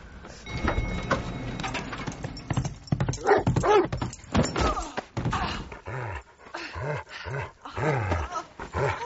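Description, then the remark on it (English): A dog barks and growls excitedly while scuffling and thumping sounds suggest it jumping on someone, followed by a run of short, rising yelps and barks. “Get off me! Get off of her! Come on, bad dog!”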